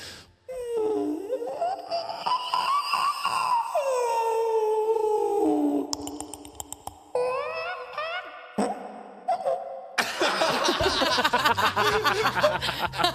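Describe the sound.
A person imitates a whale call with long, sliding, moaning vocal tones that rise and fall, broken by short pauses and ending in a rougher, noisier burst, loud.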